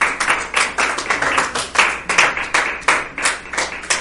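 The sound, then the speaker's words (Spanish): A church audience claps their hands together as an offering of applause to the Lord, in a steady, rapid rhythm, many sharp overlapping claps forming a dense, lively patter with no voices over it. “Dale ofrenda de palmas pues al Señor.”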